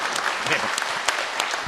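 Steady audience applause, many hands clapping in a dense, continuous patter with a few sharper claps standing out, fairly loud throughout.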